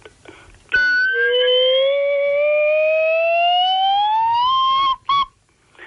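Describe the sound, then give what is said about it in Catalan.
A flute, played while the player bites its mouthpiece and holds it in one hand and a phone in the other, sounds one loud, reedy sustained note that slowly slides upward in pitch for about four seconds, then breaks off and gives a brief final toot. “Estic mossegant el bec de la flauta.”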